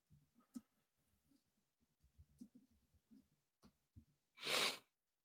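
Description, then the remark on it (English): Heavy breathing right up against the microphone: a run of soft, uneven breaths, then one loud, forceful rush of air near the end. No one speaks. “I'm over here breathing heavy.”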